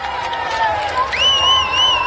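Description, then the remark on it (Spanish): Hundreds of fans, including family members and swimming club members, cheer and chant "campeones" together to welcome Spain's water polo world champions, a steady wash of voices with a sustained, rising tone riding on top, loud and continuous throughout. “La afición recibió a los campeones del mundo al grito de campeones.”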